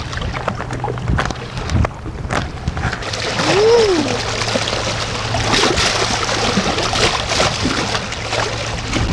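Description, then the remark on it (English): Waves from a passing boat's wake slosh and splash in a steady, irregular wash at Camp Rest Park, with a low engine-like hum and some wind buffeting in the background. “That boat made those waves.”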